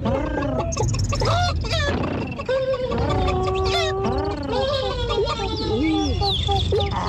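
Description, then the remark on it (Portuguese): Several human voices overlap, mimicking animal calls: whistled birdlike chirps and trills, sliding squeaks, and bleating and meowing noises, a busy continuous chorus of imitations with no ordinary talk; a mix of animal imitations sent in by radio listeners. “Pedimos aos ouvintes que enviassem as suas imitações de animais.”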